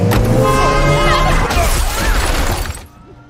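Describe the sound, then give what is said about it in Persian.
A car roars along the road, loud, with blaring horn-like tones and clattering, crashing noise over a heavy rumble, cutting off abruptly just before the end. “نه ماشین داره میره.”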